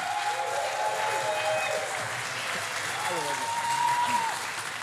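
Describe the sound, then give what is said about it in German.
A crowd claps steadily and loudly for the full five seconds to welcome a guest, with whoops and whistling shouts rising briefly above the dense wash of applause. “Heißt ihn willkommen mit einem donnernden Applaus.”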